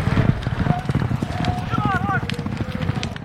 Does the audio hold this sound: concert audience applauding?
no